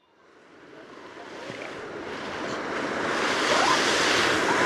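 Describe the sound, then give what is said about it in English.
Ocean waves break on a shore, a broad rushing wash of surf that swells steadily louder over a few seconds and stays full, with no voices. “And now we travel from forests to seas.”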